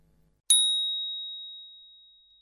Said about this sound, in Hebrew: לאחר שנשמע את צליל הפעמון, ניגש אל כובע המונח מעל הויטרינה משמאל ונמשש אותו.